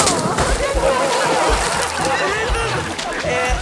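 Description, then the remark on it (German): Water sloshes and splashes continuously as a person is dunked under, with agitated voices calling out over the churning for the whole stretch. “Rein mit ihm.”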